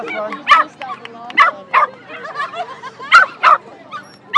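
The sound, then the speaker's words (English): Several dogs bark and yip in quick, irregular bursts, loud, with high excited yelps overlapping one another and a busy, restless chorus filling the gaps between the sharper barks. The dogs belong to two dog racing teams, including Pip and Nicky, about to race each other in a blue lane and a red lane. “And Nicky, one of our more experienced dogs in the team.”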